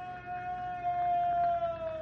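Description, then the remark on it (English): A long, steady wailing scream holds one high pitch and slowly sags lower over about two seconds, faint above a low, rumbling background with no talking. It comes from among rocks beyond a fire area. “There it is again. Was a scream.”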